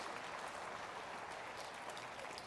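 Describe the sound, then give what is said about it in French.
An audience applauds the peace of God, a dense, steady wash of many hands clapping that holds at an even level for a couple of seconds, with no voices over it. “Applaudissez cette paix de Dieu.”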